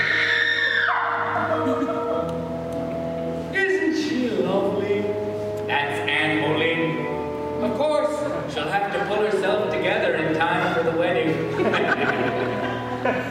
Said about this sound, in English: The ghostly figure of a woman appears, and we are interrupted by a blood-curdling scream from one end of the balcony.